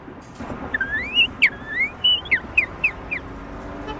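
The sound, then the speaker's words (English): A person whistles an imitation of a northern cardinal song: a few rising slurred notes, then a quick series of sharp downslurred chirps, clear over faint background noise. “The northern cardinal.”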